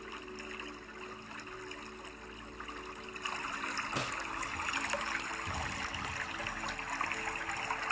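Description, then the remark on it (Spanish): Water flows in a steady, broad wash of hissing and bubbling, growing a little fuller partway through, with no voices over it. “Escucha el sonido del agua.”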